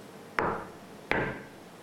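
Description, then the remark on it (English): Two sharp knocks on a touch-interface surface, about three-quarters of a second apart, each a crisp rap with a short resonant ring, made as a knocking gesture to clone a photograph; no voices present. “In this case, the user can clone photographs by pointing to desired photo and knocking to accomplish the clone action.”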